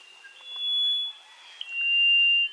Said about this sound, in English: There, instead, you might hear a rufous-throated solitaire singing in the dense mountain forest.